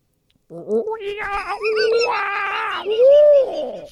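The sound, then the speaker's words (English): A person imitates a monkey, answering a question about tonight's Lakers and Warriors game one, with a loud, continuous run of wavering hoots and screeches, the pitch sliding up and down before ending on a high, arching wail. “And I'm assuming you're answering as a monkey.”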